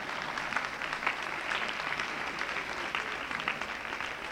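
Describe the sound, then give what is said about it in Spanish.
A crowd applauds steadily at a religious teaching session on the gift of counsel, clapping for themselves at the speaker's request: a dense wash of many hands clapping at an even level with no break for the whole stretch and no voices over it. “Desen un aplauso, se lo merecen.”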